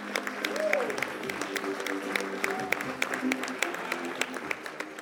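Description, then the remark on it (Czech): An audience applauds at the end of a performance, in recognition of the actors and other creators, a dense, steady patter of many hands clapping throughout, with a few voices calling out faintly above the clapping. “Na konci představení je vždycky potlesk, jako uznání hercům a všem dalším tvůrcům.”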